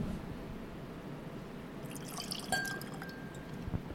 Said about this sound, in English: All righty. And I will pour for you first.